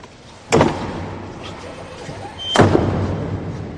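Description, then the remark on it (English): The two heavy doors of the Sistine Chapel close with slams about two seconds apart after the cardinal electors have entered, each a deep booming thud that rings out and echoes before fading into a low, hollow hum. “After they each vowed to secrecy, the doors of the chapel dramatically closed to the outside world.”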